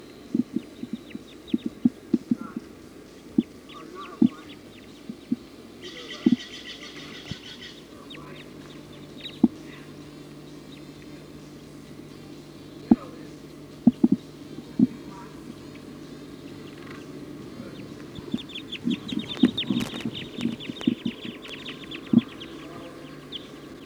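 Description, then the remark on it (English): A flock of birds calls from the very top of a pine tree, with soft, scattered high chirps and a brief buzzy burst, growing busier toward the end amid sharp intermittent clicks. “The flock is perched in the top of a pine tree here.”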